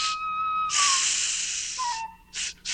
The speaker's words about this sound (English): What's that noise? Must be my hot dog. It's still sizzling.